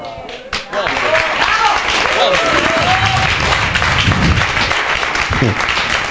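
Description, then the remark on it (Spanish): A loud, sustained round of audience applause at a meeting, dense and steady for several seconds, with a few voices calling out over the clapping. “Necesitamos menos aplausos y más aulas, pero bueno, de todas maneras,”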